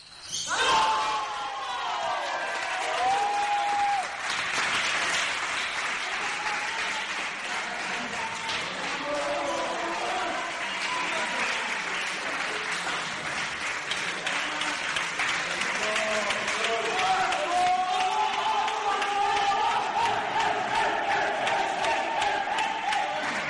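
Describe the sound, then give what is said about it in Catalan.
A crowd applauds and cheers loudly and continuously for over twenty seconds, with scattered shouts and whistles rising above the steady clapping, at the moment Serra Escala won its 4-0 table tennis match against Collado in Zaragoza. “Anem a escoltar el moment en què el Serra Escala va guanyar el partit contra el Collado.”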